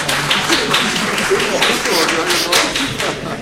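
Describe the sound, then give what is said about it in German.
A crowd applauds steadily for a few seconds, a dense, fairly loud patter of many hands clapping, with murmuring voices mixed in underneath. “Also, wir werden die Meinung nicht nach der Klatschintensität beurteilen, aber zumindest ist es ein Indikator, dass diese Meinung sozusagen wertgeschätzt wird.”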